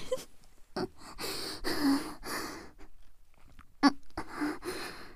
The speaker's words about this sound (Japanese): 息かかってほんとくすぐったい。おっぱい舐めたいけど舐められなくて、鼻息荒くするほど興奮しながらおちんちんシコシコしてるって。